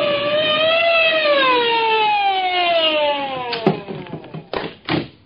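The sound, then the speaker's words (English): A loud police siren wails in a long, slowly falling tone as police pull over a car for speeding, then cuts off into a few sharp taps and thuds. “I heard the police siren and slowed down.”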